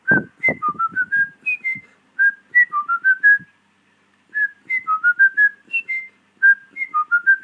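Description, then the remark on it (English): A person whistles a bouncy, repeating melody, a tune the whistler believes is from Mario Brothers, with short clear notes in quick phrases separated by brief pauses and a few faint low thumps at the start. “Further to the tweet I just left about the underground level music from Mario Brothers, I was whistling this.”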